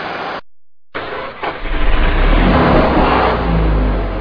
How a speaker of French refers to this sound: Je reconnais le Mercury Parkline 64 de mon oncle Léo.